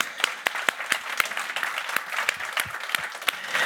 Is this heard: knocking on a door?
no